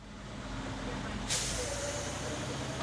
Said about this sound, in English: Back out on the call, remember, the Premier Inn, the fire truck is now en route to the hospital following the ambulance, and a new call comes over the radio.